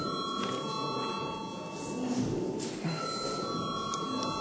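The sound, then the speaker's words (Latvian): A Latvian parliament chamber bell rings before a vote on a bill, continuously for several seconds, a steady, moderately loud electric tone over faint room murmur, with no talking. “Paldies, lūdzu zvanu.”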